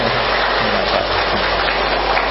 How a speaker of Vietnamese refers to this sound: Thì giờ chúng ta cho một tràng pháo tay thật to hoan nghênh chúng ta tu trì.